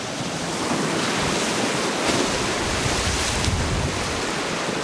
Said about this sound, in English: I watch the waves devour the beach and begin pounding the bluffs, cutting deep notches into the base. Then, one by one, the bluff faces slide off in whole sheets.